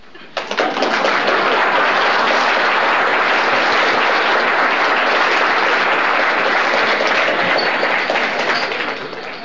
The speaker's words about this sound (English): Applause.